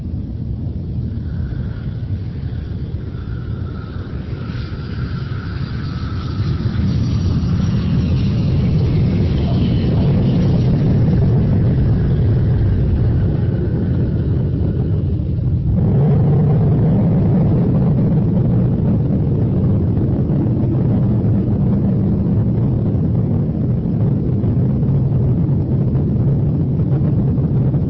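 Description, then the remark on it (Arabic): A loud, steady low roar of jet engines fills an airplane cabin as the plane prepares to land, with a broad rushing hiss that shifts to a deeper rumble partway through, continuous throughout, no voices. “يرجى من السادة والكام ربط الأحزمة ويمكن أن تخيم وذلك استعدادا للهوق، وشكرا.”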